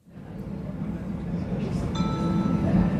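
train interior ambience

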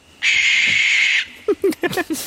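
barn owl call

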